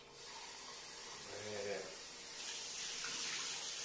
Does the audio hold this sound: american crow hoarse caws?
no